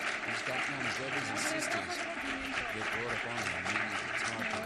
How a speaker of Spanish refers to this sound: Y yo creo que se merece un aplauso a la chica, ¿no? Para ponerla colorada en condiciones.